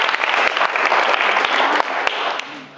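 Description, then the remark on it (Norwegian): An audience claps steadily in a dense, sustained wash of applause with scattered sharp hand-claps standing out, fading slightly toward the end. “Du kan klappe for det var bra.”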